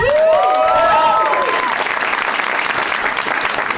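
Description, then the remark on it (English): A crowd claps steadily in a dense, continuous wash of applause, with high whoops and whistling cheers rising over it during the first second or so before the clapping carries on alone. “There's a little less shouting.”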